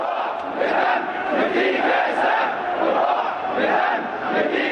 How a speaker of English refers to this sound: The vast majority of the demonstrators were backers of the banned Muslim Brotherhood, and the liberal shouts of "Down with Mubarak" quickly gave way to the Islamist rallying cry, "With our lives, with our blood, we offer ourselves to Islam."